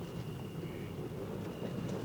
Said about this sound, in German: Nach einiger Wartezeit hörten die Lauscher auf dem Hochsitz das Geräusch eines Geländewagens, der vorsichtig über den Waldweg rollte.